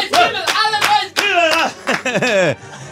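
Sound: hand clapping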